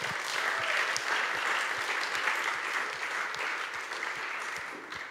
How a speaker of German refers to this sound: Nochmal einen Applaus für den Cornel.